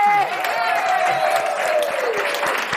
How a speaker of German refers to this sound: Deswegen, Ladies and Gentlemen, macht nochmal einen kräftigen Applaus